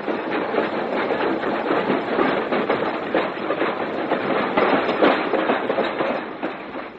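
A moving train rumbles steadily, its wheels clattering over the rail joints in a continuous, fairly loud clickety-clack heard from inside a passenger carriage, with no voices.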